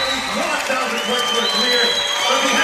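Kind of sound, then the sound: crowd, basketball crowd cheering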